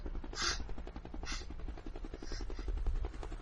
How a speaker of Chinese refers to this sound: 直升机来了，他来接你了，你得走了。